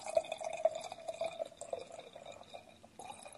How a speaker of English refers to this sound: By the way, yes. I'm now pouring glass number three.